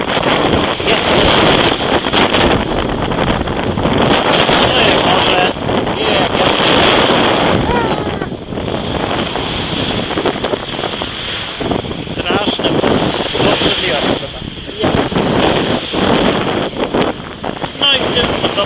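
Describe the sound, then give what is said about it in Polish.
Strong wind roars and buffets the microphone on the seashore at Hel as someone walks into the sea, with surf churning underneath in a loud, constant wash that surges and dips; a voice may be faintly buried in the noise. “To jest prawie najsypniejsza pogoda, jaką sobie można wyobrazić na Helu, ale dotarłem. I teraz wchodzę do morza, pierwszy podróżę, naprawdę.”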